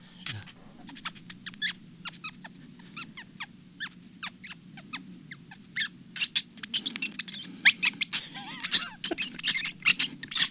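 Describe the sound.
A man's voice imitates a rat's shrill, pained squeaks for reel 10 of the film Raiders, starting as scattered chirps over a low hum and building into rapid, loud, frantic squeals near the end.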